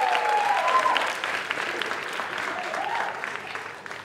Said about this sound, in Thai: ขอเสียงปรบมือ